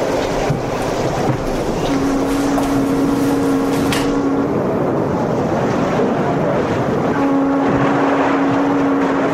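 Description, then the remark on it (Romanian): A motor launch idles at the quay with a steady low engine drone and a sustained tonal hum, amid lapping water and gusty wind noise, with no voices. “Șalupa e aici.”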